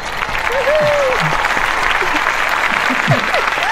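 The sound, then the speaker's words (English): Steady applause from an audience welcoming a guest writer onto the show The Writer's Block, a dense wash of clapping hands with a few faint voices and whoops rising over it. “Now, how does it feel to have that volume of clap?”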